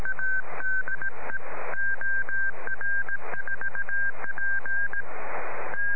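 A single steady tone keyed on and off in quick dots and dashes, Morse code CW signals received via an amateur radio satellite passing overhead, with one operator in Belgium, over a constant hiss of static and noise bursts.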